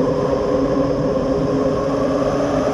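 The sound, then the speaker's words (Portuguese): Wind blows steadily outside, a continuous low, rumbling whoosh that holds an even level throughout without gusts or breaks, with no voices. “Mas a única resposta que teve foi do som assustador do vento que ainda soprava do lado de fora.”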